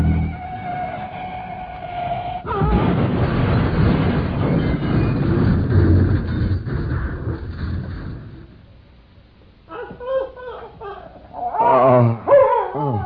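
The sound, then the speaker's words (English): A car horn blares over roaring engine noise and a long, loud car crash, then after a brief lull a dog barks and yelps several times in quick, uneven bursts. “Is that your dog?”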